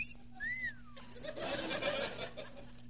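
A man's wolf whistle at a passing woman, from in front of a drugstore, a single bright glide that swoops up and falls away, followed by a louder, noisy burst of commotion that fills the rest of the moment.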